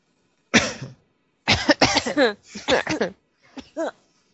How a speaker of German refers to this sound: Ich habe seit 4 Wochen Husten.